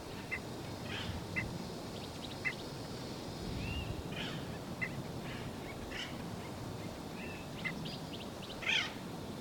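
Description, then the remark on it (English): Short, sharp bird alarm calls from bird 318 repeat at irregular intervals, fairly faint, over a steady hiss of outdoor background noise; no one speaks. “That's continuing alarm calls of 318.”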